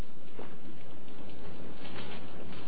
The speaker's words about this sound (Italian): Io? Con tutta quella pioggia? Ci vai tu?